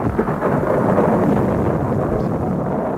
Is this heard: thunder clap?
yes